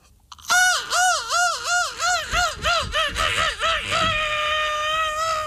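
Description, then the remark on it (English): A person's voice imitates a seagull screech: a loud run of about eight wavering, rising-and-falling cries in quick succession, trailing off into one long, steady held squeal. “Who has the best seagull screech on the Daily Mig Show?”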